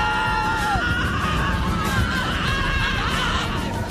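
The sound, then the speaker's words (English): A child screams in a loud, shrill, wavering cry after hitting their funny bone, the pitch bending up and down for several unbroken seconds. “So I hit my funny bone, and I screamed a little bit when my funny bone was hit.”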